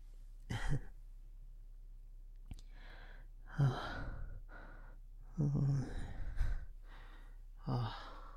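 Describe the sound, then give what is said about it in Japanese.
Heavy, ragged breathing in a hot warehouse: several breathy gasps and voiced sighs come every second or so, as if someone is out of breath, with no words spoken. “それにこの倉庫暑いし、息切れと一緒ですね。”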